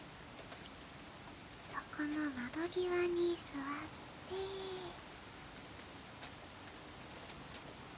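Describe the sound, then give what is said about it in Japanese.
Steady rain falls outside a window, a soft continuous hiss that runs through the whole moment while a woman speaks quietly and briefly near the middle. “大丈夫。雨は中まで吹き込んでこないから。”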